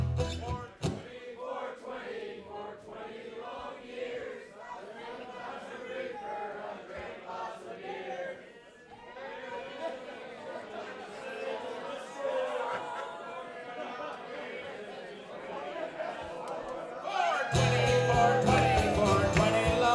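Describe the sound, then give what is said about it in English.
A live crowd sings its solo part of a song together in a loose, massed chorus of many voices for most of the stretch, ending in a loud burst of cheering and noise. “All right, you ready? Crowd solo.”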